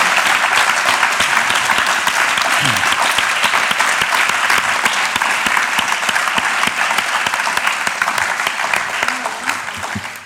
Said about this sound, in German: Vielen herzlichen Dank für euren Einsatz und auch für alle, die mit euch zusammen eben da an den Theken gestanden sind und auch sonst im Hintergrund gedient haben. Merci vielmals. Jetzt könnt ihr einen riesen Applaus geben.